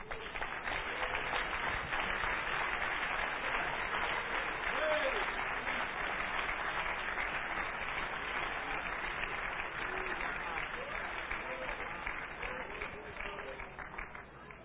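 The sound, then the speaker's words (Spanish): Sustained audience applause given to God, a dense steady wash of many hands clapping at an even loudness for about fifteen seconds, with faint voices mixed in underneath. “Denle un aplauso a Dios.”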